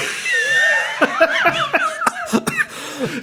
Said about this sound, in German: Entschuldigung, weil man sollte jetzt nicht husten, aber das ist wirklich geil, weil man denkt ja dauernd so mit und was kommt jetzt eigentlich?